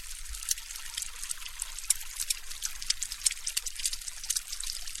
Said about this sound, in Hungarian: Ez tulajdonképpen a sütés-főzés effekt, konkrétabban a főzés effekt, egy tojás készítése olajban.